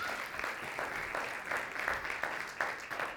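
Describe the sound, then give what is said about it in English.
A crowd claps steadily for a few seconds, a dense patter of many hands with a slight rhythmic swell, with no voices over it, applauding a group of young people for their Christmas performance at an evening church gathering. “Let's give them a round of applause again for their service to us.”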